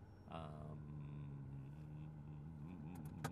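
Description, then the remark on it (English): A car engine drones past, a steady low rumbling hum that holds for a few seconds with faint road noise beneath it, as cars come by while someone drives home. “I got cars coming and a guy is walking and I need to get out of the way so that he can walk, and then we'll let him get by, and we'll be on our way.”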